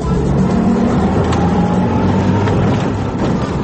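A vehicle drives along a rough dirt road between a forest and a water-filled canal in the border zone between Hungary and Serbia, its engine a steady low rumble mixed with continuous rattling and bumping, loud throughout with no voices.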